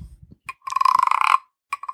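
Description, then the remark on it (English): A wooden scraper percussion instrument rasps out a rapid ratcheting croak, a steady burst of ticking pulses lasting under a second, then a few short scrapes follow, making the sound of the frog in a musical story about a bird, a frog and a crocodile. “And in the story, a scraper makes the sound of the frog. So here's my scraper.”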